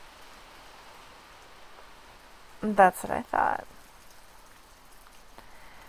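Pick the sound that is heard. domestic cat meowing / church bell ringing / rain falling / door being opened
rain falling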